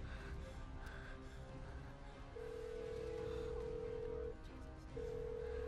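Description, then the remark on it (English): An old telephone, used to call a father, rings through the line after some busy clattering, a steady tone that sounds for about two seconds, pauses briefly, then starts again over a noisy background. “We gotta call Dad. But where's my phone? Use the old one we found.”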